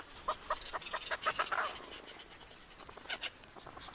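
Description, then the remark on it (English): A colony of Antarctic petrels calling at an inland breeding site over 300 miles from the ocean, the most southerly bird colony on Earth: rapid, harsh chattering notes from several birds overlap in bursts, then thin out before a final short flurry. “Antarctic petrels now join the most southerly bird colony on Earth.”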